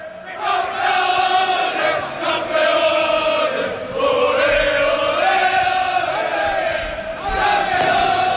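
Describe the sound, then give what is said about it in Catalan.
Football players, including Araujo, Lewandowski, Pedri and Gavi, celebrating a championship with fans: a crowd of men chants loudly and continuously in unison, a rhythmic, harmonic group chant with brief swells and dips, sustained for the whole stretch with no single voice standing out. “Escolteu-los! Són els jugadors, que els tenim aquí mateix.”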